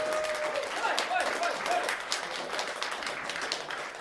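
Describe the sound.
An audience applauds steadily for about four seconds, dense, sustained clapping from many hands, fairly loud, with a few faint voices or whistles mixed into the ovation, as a saxophonist is invited onto the stage.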